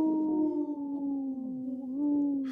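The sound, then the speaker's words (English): A wolf howls in one long, steady, mid-pitched note that wavers slightly and lifts a little toward the end, carrying on unbroken with no talking. “The dog, he looks like, or the wolf, he looks like he takes another little, like, short howl.”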